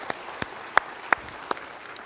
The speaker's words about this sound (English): So give yourselves a hand for that. Yeah.